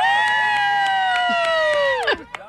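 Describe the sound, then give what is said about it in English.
A loud, sustained yell from a spectator on the sidelines, held for about two seconds with a slowly falling pitch before breaking off, with scattered crowd noise behind it at a youth flag football game. “All this other yelling and stuff is completely aggravating and annoying everyone on the field.”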